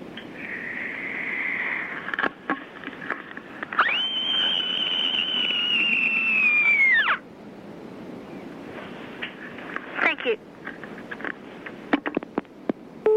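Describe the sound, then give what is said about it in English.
A year-six child from Goulburn, screaming down the telephone, lets out one long, shrill end-of-a-hard-day scream lasting about three seconds. It rises quickly, holds a steady high pitch, then cuts off abruptly against a constant rushing background noise. “Here is my special end of a hard day in year six scream.”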